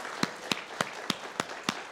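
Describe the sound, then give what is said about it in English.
Applause from a crowd for a group of people who are standing, with a steady run of six sharp, evenly spaced claps standing out above a softer, continuous wash of clapping noise. No one speaks. “Let's give them all a big round of applause again.”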